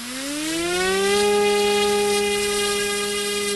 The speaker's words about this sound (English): He launches a small styrofoam drone into the sky and sits down and rests his laptop on his knees. As the drone makes its rounds over the pop-up village of Savan Galata, it snaps photos that show up on his computer.